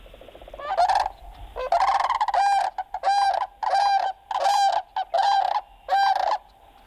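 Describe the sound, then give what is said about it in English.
A sandhill crane gives a series of loud, rolling, trumpeting calls, about seven or eight in quick succession with short gaps, with no other voices. “Here's a listen to the sandhill crane.”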